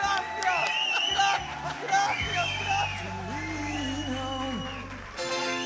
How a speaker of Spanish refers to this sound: Vamos a la piña. ¡Aplausos para la piña! ¡Oh, oh, oh, oh!